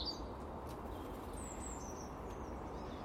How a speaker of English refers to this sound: Mr. Blackbird, on alert?